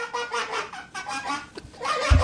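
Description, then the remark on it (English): A man's fart shaped into a run of nasal, honking squawks that sounds like a duck or goose quacking, fairly loud, with a low thump at the end. “This is a duck. That's supposed to be a duck.”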